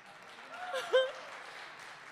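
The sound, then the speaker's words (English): Audience applause as a steady wash of many hands clapping, fairly soft, with a brief whistle or cheer rising out of the crowd midway. “I'm going to tell him you applauded.”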